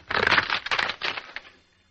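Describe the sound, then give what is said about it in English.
Wooden fruit boxes being broken to make a sound effect for the Mr. District Attorney radio show, a dense run of sharp splintering cracks and crunches for about a second and a half before fading out. “It was made up originally of some fruit boxes being broken, like this.”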